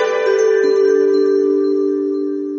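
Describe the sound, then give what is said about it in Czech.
A telephone rings again at the start of the day with a steady, sustained electronic tone, fairly loud, fading slightly toward the end, with no voices or other sounds around it. “Opet zvoni telefon.”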